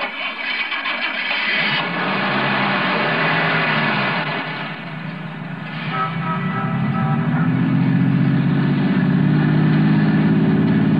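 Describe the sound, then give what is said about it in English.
A car engine turns over and settles into a steady, loud running hum that swells as it revs, continuing to the end with no voices. “Start your car, head west of the highway, and keep going until I tell you to stop.”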